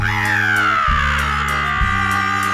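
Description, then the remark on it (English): A loud, raspy sulphur-crested cockatoo screech from a bird flying overhead, one long harsh call sliding slowly downward in pitch over a couple of seconds, with a steady low drone underneath. “Above us, we witness the majestic flight of the gilded lily of Australian bird life, the sulphur-crested cockatoo.”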